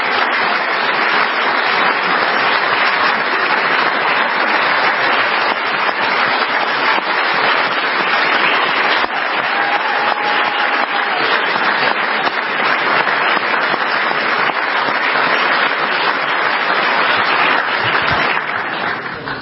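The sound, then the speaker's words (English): Loud, sustained standing applause from a large crowd, a dense unbroken wash of clapping that holds steady for about twenty seconds with no speech, tapering slightly only at the very end. “They do not stand and give applause like that very often, so they have some respect.”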